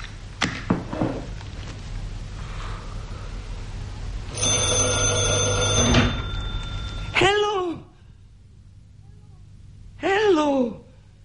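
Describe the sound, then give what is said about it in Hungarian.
A telephone rings in one loud, steady burst lasting about a second and a half, preceded by sharp clatter and followed by two short, falling vocal cries. “Mi történt ezzel a telefonnal?”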